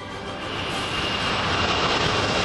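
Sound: jet aircraft flying overhead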